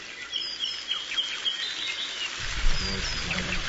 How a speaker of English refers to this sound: Ah, the beautiful birds of Kauai. Mm. We love them, and we thank David Kuhn so much for exploring deep into the Hawaiian forest to bring back these beautiful natural sounds